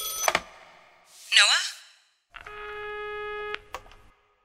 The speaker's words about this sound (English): There's something unnerving about a phone ringing in that underground maze.